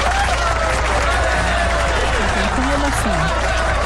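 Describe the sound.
Steady, dense applause for Flamengo (Mengão) as champions fills the whole clip at a fairly loud, even level, with faint voices and shouts mixed in underneath.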